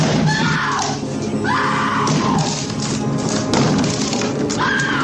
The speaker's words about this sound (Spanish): intenta derribar la puerta del baño donde se esconden su mujer y su hijo.